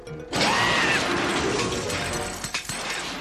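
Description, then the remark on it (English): Metal of a car being crunched at the Neither World Junkyard: a loud, sustained grinding and crushing roar that starts abruptly, with high squealing scrapes early on and a few rattling clanks near the end. No one speaks. “The delightful sound of metal being crunched.”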